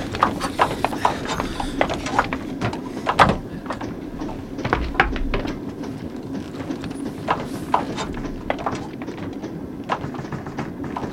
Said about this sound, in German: Moment mal. Hört ihr das? So ein Klopfen. So ein Klopfen? Ja, das kommt aus dem Speisewagen. Ja, das kommt von der Klotür hier.